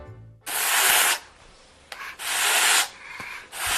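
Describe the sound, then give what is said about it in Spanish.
A goose hissing in three harsh, breathy bursts, each lasting well under a second with short pauses between, loud and airy with no voices. “Esto es lo que hace una oca. Te bufa como un gato.”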